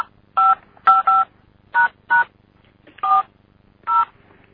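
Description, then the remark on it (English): Seven short, clear touch-tone beeps from a cordless phone keypad being dialed at an uneven pace to place an AT&T long distance call, each a steady dual-pitched tone, with no voices over a faint low hum. “You heard a couple more touchstones from my cordless phone, but, yeah.”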